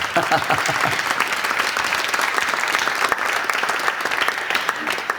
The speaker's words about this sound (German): Vielen Dank. Danke, Dielefeld. Klasse. Dein Applaus.